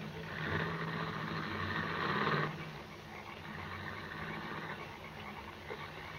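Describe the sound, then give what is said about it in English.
A car engine rumbles with a broad hiss of tyres in the rain, then the noise drops away after a couple of seconds, leaving a quieter, fading engine hum as the car drives away. “When the car had gone, he released me.”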